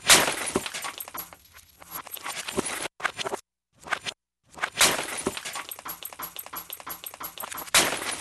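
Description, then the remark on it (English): Glass breaks and shatters in a dense run of loud crashes with scattering, tinkling debris, broken by two short silent pauses before the smashing resumes. “Here's one you wrote. It's called Glass Break.”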